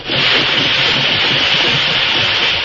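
A steam engine that hauls ore out of a tunnel in a valley runs with a loud, steady hiss over a rough, churning low rumble, continuous for the whole stretch with no break or change in level.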